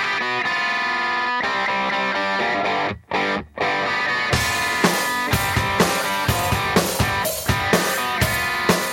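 A loud rock song with distorted electric guitars opens with a sustained chord, drops out briefly twice, then kicks into a driving full-band groove with steady, punchy drum hits.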